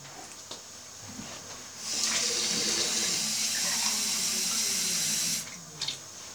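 A tap runs water into a glass for about three and a half seconds, a steady rushing hiss that starts and stops abruptly, with faint clinks just before and after.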